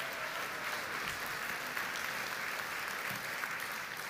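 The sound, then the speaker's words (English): A large church audience claps together at an Easter (Resurrection Sunday) service, giving a clap of praise to Jesus Christ, in a steady, sustained wash of applause. Many hands blend into dense, even noise that holds at the same level throughout, without any talking. “Let's give him another clap of praise this morning.”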